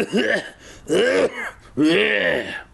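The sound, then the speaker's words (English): A voice imitates an evil, dry, raspy laugh that sounds like throat clearing or a cough: three rough, guttural bursts, fairly loud, with short pauses between them and no other sound. “The ugly laugh escaped their mouths, an evil, dry sound, more like a throat clearing, more like a cough than a laugh.”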